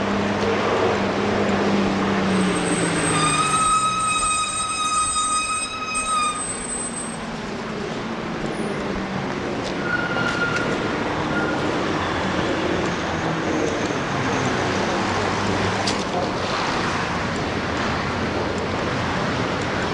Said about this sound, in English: Subway, street noises obviously, people waiting for buses, walking on the sidewalk, not too many people. Oh, the subway entrance.